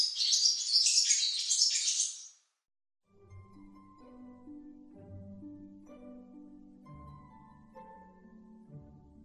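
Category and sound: bird, small bird chirping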